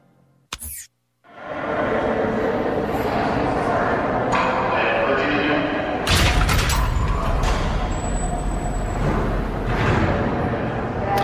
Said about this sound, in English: And there we hear the jail doors clanging shut on Lindsay Lohan.